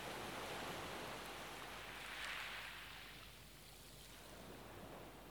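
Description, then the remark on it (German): Gentle, warm waves lap softly on a shore around someone's feet, a steady broad wash of water swelling and receding slowly, fairly quiet and continuous with no voices. “Warm, ganz sanft umspülen die leichten Wellen deine Füße.”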